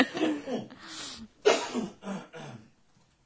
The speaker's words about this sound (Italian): Aspetta che devo tossire, toglierlo. Ok.